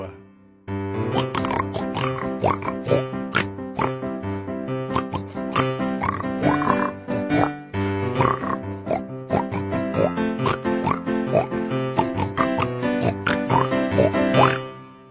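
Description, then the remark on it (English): A group of voices sings a steady, rhythmic song with imitated pig oinks and grunts woven through, loud and continuous, with strong harmonic vocal tones throughout. “Yes, maybe we'll find that courage as we sing this next verse, the pig verse.”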